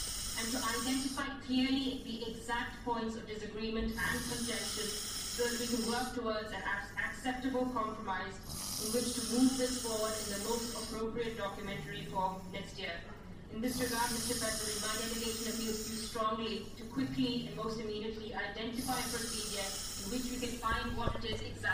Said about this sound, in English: Yes, that was the sound of someone snoring. It's 6:30 a.m. Nope, sorry, it's 10 to 7, and I am surrounded by sleeping journalists, and still the negotiations are going on.